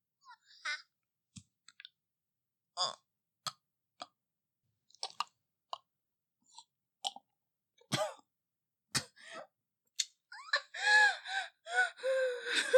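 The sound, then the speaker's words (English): Gasps and short coughing bursts from a person made to drink a liquid arrive in irregular spurts with quiet gaps between, building toward a strained run of breathy, choking sounds at the end. No speech. “I didn't mean to cough in your mouth.”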